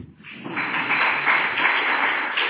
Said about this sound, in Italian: Oh! Applauso.